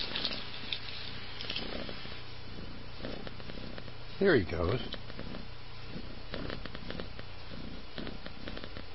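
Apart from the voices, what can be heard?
cat purring near microphone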